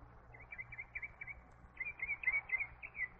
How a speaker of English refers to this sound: There goes the bugler. He wakes all the other birds up.